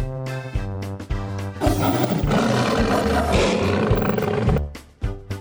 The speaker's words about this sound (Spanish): Estaba muy fácil, es un león.